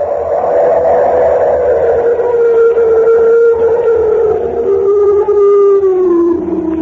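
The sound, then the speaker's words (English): A loud, drawn-out bellowing roar of an animal on a high mountain pass leading across the Tibetan border, one continuous wailing cry that slowly sinks in pitch over several seconds, overpowering and violent enough to shake the ground, with no talking. “Oh, heavens, it was an animal, unquestionably. Why, it was so loud, so violent, that it actually shook the ground under my feet.”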